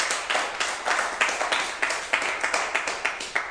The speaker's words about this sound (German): Das ist euer Applaus. Gebt euch mal den Applaus.